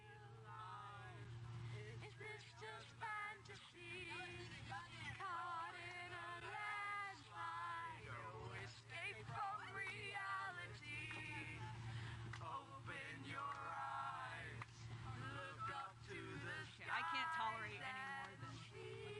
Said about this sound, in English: That's a middle school bus ride.